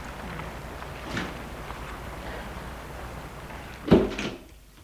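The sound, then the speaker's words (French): A hotel door opens with a soft creak and then shuts with a firm thud near the end, over a quiet background hum with no talking. “Sortent de voiture et entrent dans leur hôtel.”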